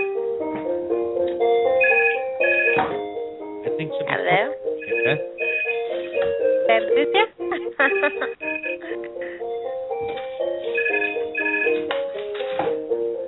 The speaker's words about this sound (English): Okay, I know whose phone that is because I've just muted them.